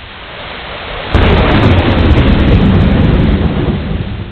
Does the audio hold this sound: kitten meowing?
no